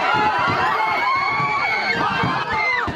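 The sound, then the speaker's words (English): A loud, chaotic crowd of protesters yelling and screaming over rumbling commotion in Rhode Island as an employee of a detention facility that works with ICE drives his truck into them, with overlapping shrill cries throughout, continuous. “That's led to clashes like this one in Rhode Island, where an employee at a detention facility that works with ICE drove his truck into a crowd of protesters last month.”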